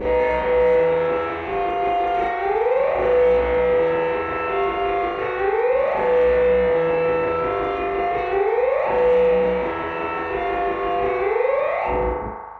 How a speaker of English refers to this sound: Going once, and then he kicks on the distortion pedal and he plays this.